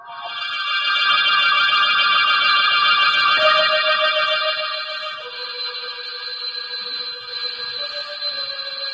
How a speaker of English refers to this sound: I don't know if it was the ringing of the doorbell that awoke me, dragged me back to consciousness out of a deep, heavy sleep.